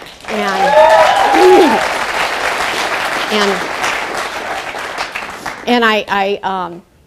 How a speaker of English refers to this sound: And thank you for that. I really wasn't looking for applause. However, it's always nice.